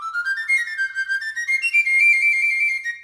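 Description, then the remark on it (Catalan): A high, bright flabiol, a Catalan three-hole flute, plays alone to give the starting signal, its thin whistling notes rising and wavering through a short lively phrase before settling on a held tone. “Un flabiol dona el tret de sortida.”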